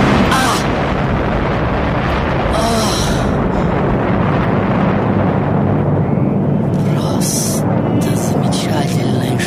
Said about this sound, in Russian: И вот в определенный момент, по совершенно неизвестной нам причине, происходит чудовищный взрыв, и маэстро, надеюсь, сейчас на него отмотает.